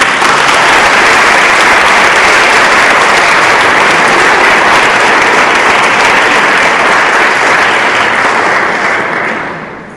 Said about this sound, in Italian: La introdurrei solo con un applauso, grazie.